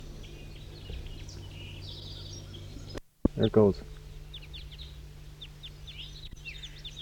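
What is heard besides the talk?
bird calls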